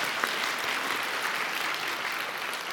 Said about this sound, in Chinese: 好吧，为每一位参与服事弟兄姐妹鼓掌，好吧，包括你自己在内哈。